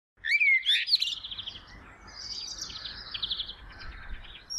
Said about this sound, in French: Ouvre grand tes oreilles. Écoute le chant des oiseaux.